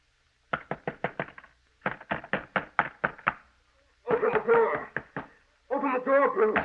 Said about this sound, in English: It will be your duty to get him to quiet down. Keep him from pounding on this door.